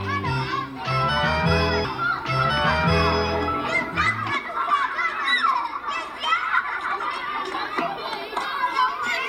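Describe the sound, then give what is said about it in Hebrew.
Children playing and climbing on and around a sculpture used as a playground: a steady mix of high chattering voices and occasional shouts, with a low droning hum underneath during the first few seconds before it drops away. “ילדים מסתובבים סביבו, אנשים מבוגרים לפעמים מעיזים לעלות, לפעמים לא, אבל הפסל כל ערכו הוא בכך שאנשים יכולים לעלות עליו.”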